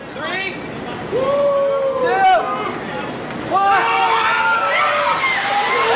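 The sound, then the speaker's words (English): A bucket of ice water is dumped out over someone in an ice bucket challenge, a heavy, sloshing splash that keeps spattering for several seconds, while voices cry out and exclaim over it. “The only thing that would make this better is if I had a big bucket of ice water dumped on my head right now.”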